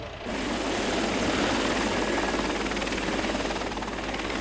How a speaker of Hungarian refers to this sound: Két mentőhelikopter is érkezett a baleset helyszínére, de mire a mentők kiérkeztek, az utasok már kimásztak a vonatból.